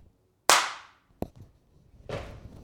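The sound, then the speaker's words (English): A loud, sharp slam against the floor rings out, followed by a shorter knock and then a second, duller thud with rumbling low end. No one speaks. “I just slammed on the floor.”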